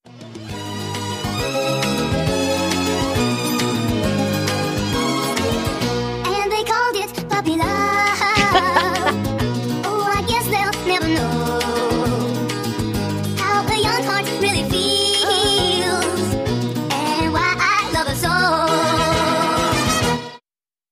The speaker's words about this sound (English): I'd rather listen to … records at 45 RPM